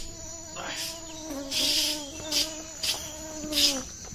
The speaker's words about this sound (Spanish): Malditos mosquitos jurásicos.